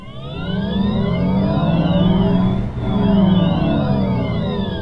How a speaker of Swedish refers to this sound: Ja, så låter en bil när man gasar och bromsar. I det här fallet en Volkswagen ID3. Och om inte allt för många år kommer alla bilar att låta så här, för då kommer majoriteten bilar att gå på el.